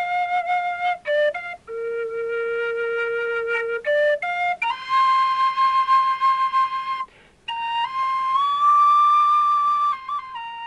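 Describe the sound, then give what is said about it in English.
A penny whistle plays a bright, lilting melody, with clean sustained notes and quick ornamental flicks between them, steady and unaccompanied throughout. “I mean, in Ireland, all kinds of children are playing the penny whistle.”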